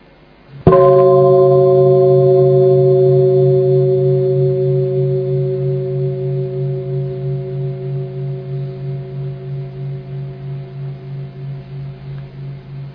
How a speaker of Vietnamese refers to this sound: Bây giờ mời đại chúng chúng ta nghe một tiếng chuông và chúng ta sẽ bắt đầu ngồi thở một chút cho phiền não nó rơi rụng một chút ít.